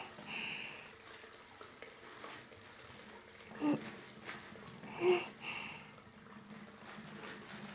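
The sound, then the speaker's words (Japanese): Wet scrubbing of a foamy loofah, grown in an estate garden, on someone's back, stroking over the shoulder blades from top to bottom and bottom to top, a series of rasping strokes that swell and fade in an uneven back-and-forth rhythm, a few louder swipes standing out. No one speaks. “細かい泡を繊維に絡めるようにして、肩甲骨の上から下へ、下から上へと、ゴシゴシゴシゴシ”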